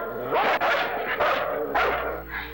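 A dog barks loudly several times in quick, uneven succession, each bark harsh and full-bodied, with a softer, higher yip trailing at the end and no talking.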